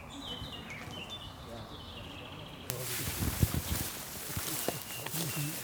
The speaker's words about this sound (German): Nutzen Sie die Zeit, es ist abendlich, es ist ruhig, die letzten Vögel lassen sich noch hören, dass Sie ein Gefühl für diesen Wald bekommen auch.